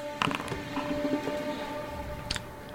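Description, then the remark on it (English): A heavy, stuck door caked with clay grinds and creaks with a strained, groaning tone as it is dislodged and pulled open, broken by a few scraping knocks and clatters, ending in a short rattle. No one speaks. “You struggle a lot at first, and all of a sudden you hear it. and you manage to dislodge it. A lot of the clay that was on the door comes off, and you begin pulling it open.”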